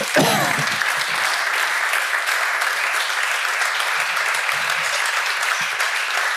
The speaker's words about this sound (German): Danke vielmals. Grossen Applaus!